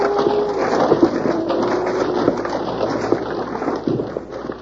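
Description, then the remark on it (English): A landslide of rocks tumbling down a hill as a man slips down it: a steady, dense rumbling roar with a few sharper cracks of stone breaking through, holding loud for several seconds with no voices. “Oh, half of the hill come down with me.”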